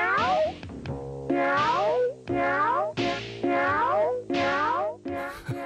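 A cat meows loudly, about five drawn-out, rising-and-falling meows in quick succession with only brief pauses between them.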